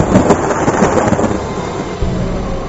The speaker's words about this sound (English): As the atheist got up to leave, there was violent thunder and lightning.